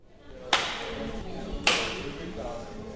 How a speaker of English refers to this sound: The sound of staple guns echoes inside a large, dusty warehouse in South Fairbanks. 4-foot-long wooden trail markers are spread out between sawhorses all over the place.